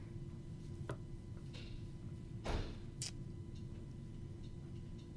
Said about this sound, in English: Door dramatically closes in the background.